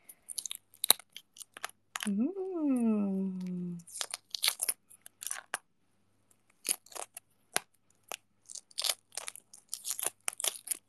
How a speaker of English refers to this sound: Like a pack of the pre-soft boiled eggs at the kombini. Wait, can you guys hear the egg peeling ASMR?